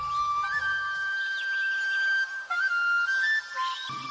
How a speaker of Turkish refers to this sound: Bu canlıyı tanıdınız mı? Bu bir balina. İsminin anlamı büyük deniz canlısı.